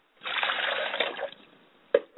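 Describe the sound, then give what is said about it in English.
Water is poured onto the ground as a libation to the north, a steady splashing rush for about a second, then trailing off into quiet, followed by a single sharp drop or splat. “Pour libations to the north, and I say, Aishe.”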